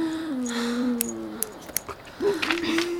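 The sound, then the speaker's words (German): A dog whines in long, wavering high tones, first one drawn-out whimper, then a brief pause with a few soft clicks before another sustained whine, moderately loud. “Hör auf zu jaulen.”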